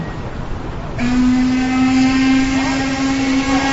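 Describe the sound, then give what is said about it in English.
A motorboat engine roars into a steady, loud droning hum after a second of rushing water noise, holding a constant pitch to the end with no voices. “Hey, where is this boat going?”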